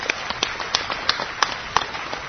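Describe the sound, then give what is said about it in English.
An audience applauds with a steady patter of overlapping claps, a few sharper ones standing out, at a moderate level with no voices, applauding Alcoholics Anonymous after a speaker's daughter celebrated 15 years in AA, during a talk by an Al-Anon member. “That applause is for AA, because Alcoholics Anonymous parented her so wonderfully.”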